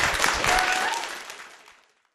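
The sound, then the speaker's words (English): A crowd claps together in dense, steady applause that stays loud for about a second, then thins out and fades to silence: a final round of applause at a candidate forum for the City of Bozeman's Local Government Study Commission, organized by Bozeman Tenants United, at Pilgrim United Congregational Church in Bozeman on September 16, 2024. “And I just want to close this on a final round of applause for everybody who made this happen and the candidates as well.”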